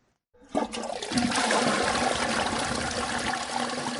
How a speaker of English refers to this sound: A flushing enclosed toilet. It's something people in many parts of the world take for granted.